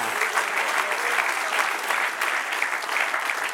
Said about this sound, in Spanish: Dale un aplauso al que vive. ¡Aleluya!